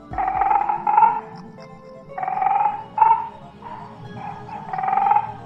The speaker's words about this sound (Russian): Жаба-рыба хрипло ворчит.